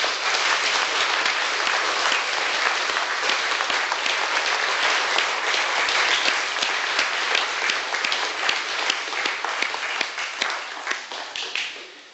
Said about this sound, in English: And we're going to clap. We're not going to clap the people who did the displays. They're wonderful. We're going to applaud God, who is an amazing and wonderful God. Should we do that? Let's do it.